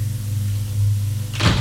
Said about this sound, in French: On frappe à la porte. Elle n'a pas entendu.